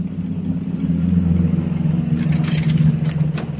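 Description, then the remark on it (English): A bus marked Brundage Park and the fairgrounds on its front pulls in with a deep, steady engine rumble and a low droning hum, joined toward the end by brief airy hisses. No one speaks. “Here comes a bus now.”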